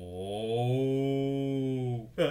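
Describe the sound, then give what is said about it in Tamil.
A cow lets out one long, loud, steady moo lasting about two seconds, then a brief second call begins as it ends. “ஐயோ, கெட்ட கனவு இன்னும் கலையில போல இருக்கு, மாடு முகத்துக்கிட்ட வருது.”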